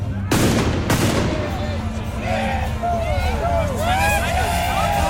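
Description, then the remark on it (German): Two loud, sharp blasts of ceremonial mortar (Böller) fire ring out about half a second apart at the Narrensprung carnival parade through the city centre of Friedrichshafen, followed by a steady hubbub of crowd noise with rising and falling whistles and shouts. “Jetzt kommen zwei Möller und in dem Fall Achtung!”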